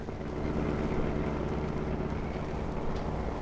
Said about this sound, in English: The best place I know for getting lost is the heart of the city, so we pile into my car and drive uptown.